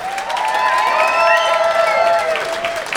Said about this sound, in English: Would you please give a wonderful, wonderful, wonderful round of applause